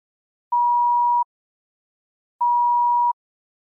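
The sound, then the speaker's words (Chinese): Two identical electronic beeps from a favourite game on a mobile phone, each a steady mid-pitched tone under a second long, separated by a short pause. They are clear, with no other sound. “我的手机里有很多游戏，这是我最喜欢的。”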